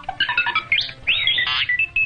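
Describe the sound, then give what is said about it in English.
The robot droid R2-D2 chatters in quick electronic beeps and boops, with high warbling whistles that swoop up and down in pitch, a long trilling squeal midway, and a couple of steady tones at the end. “At 3'8", Kenny was tapped by George Lucas to step inside that tiny little trash can and be out in the heat in Tunisia and then the freezing cold and just beep, boop, boop, boop, boop for six movies.”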